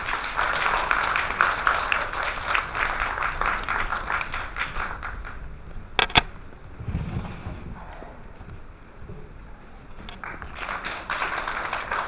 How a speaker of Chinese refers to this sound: 下面呢，让我们以热烈的掌声欢迎张春生先生为我们做讲座。